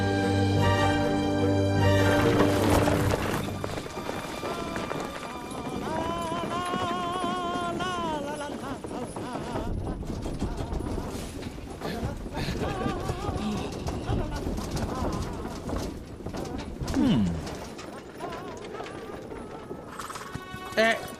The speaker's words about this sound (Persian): اسبا توی برف با تمام توانشون دارن میرن. اگه فکر میکنی اسبت آروم میره میتونی راه بریم.